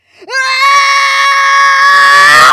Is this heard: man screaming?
yes